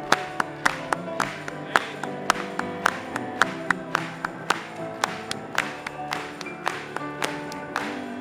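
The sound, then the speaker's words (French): An audience claps together in a steady, even rhythm, about two claps per second, with sustained musical tones underneath. The clapping is fairly loud and sounds like a crowd keeping time. “Clapping to him.”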